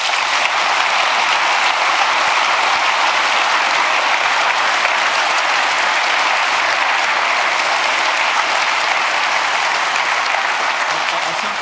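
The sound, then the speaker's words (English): Sustained applause from a large audience at the Congress, given for the CERT, a dense, steady wash of clapping that holds at full strength for the whole stretch without fading, loud. “Nonetheless, we couldn't do without the CERT, so big applause for the CERT.”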